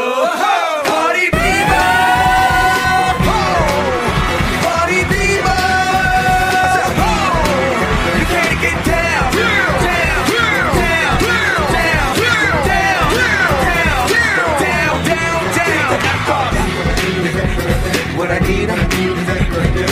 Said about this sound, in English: Now everybody at home, when I say party people, I want you to stand in your living room and scream.